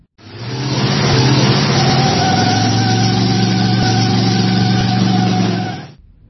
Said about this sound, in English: They got into the new car, and Nasir's brother revved the engine and spun the tires as they took off.